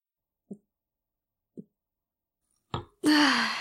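Two soft gulps spaced about a second apart, then a small wet click and a loud, breathy, satisfied exhale: someone drinking alcohol after a toast marking the end of a two-day live show, then sighing with pleasure.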